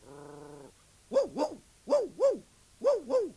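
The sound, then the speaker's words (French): A dog barks six times in three quick pairs, fairly loud, after a short steady humming tone at the start. No one speaks. “Par exemple, quand il voit le chien.”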